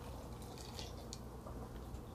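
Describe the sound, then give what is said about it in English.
A sparkling lychee drink being poured, quiet and steady, with a few brief bright fizzy splashes over a constant low hum. No one speaks. “Please don't pour me too much.”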